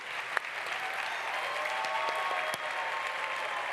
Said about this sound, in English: Big round of applause.